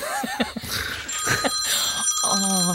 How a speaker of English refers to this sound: What is your ringtone? Just ring, ring, like classic phone. Ring. Is ring.